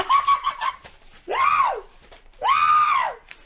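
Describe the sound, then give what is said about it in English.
A person lets out two loud, drawn-out screams indoors, each rising and then falling in pitch, with a short pause between them and some brief, choppy vocal bursts just before. “God, you're going to start screaming in here like you're in the middle of some kind of a coon hunt.”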